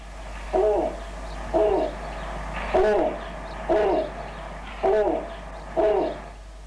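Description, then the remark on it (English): Six deep, booming owl hoots from a snowy owl, evenly spaced about a second apart, loud over a low steady background rumble, with no voices. “Yeah, and if you've never heard a snowy owl.”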